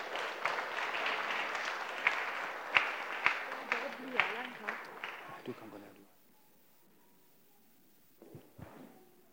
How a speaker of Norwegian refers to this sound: Nå skal dere få en applaus, så skal dere få sette dere ned igjen.